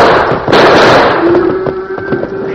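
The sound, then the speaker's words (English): A loud burst of gunfire as a rattlesnake is shot, then a rapid string of sharp cracks over a dense, roaring rumble, with a steady low droning tone running underneath; the shots stampede the cattle. “Those shots are stampeded the cattle.”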